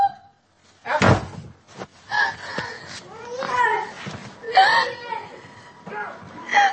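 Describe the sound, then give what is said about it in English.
A hammer bangs hard against a door, beating the door in: one loud slam followed by several sharper knocks spread irregularly, while raised, upset voices and a whimpering cry carry on throughout. “You just beat our door in with a hammer.”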